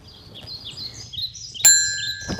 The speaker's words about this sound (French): Le son des vélos qui dévalent une pente en roue libre, le chant des oiseaux et surtout aucun bruit de moteur. Les participants au Slow Up ont pu profiter d'une journée quasiment sans voiture ce dimanche.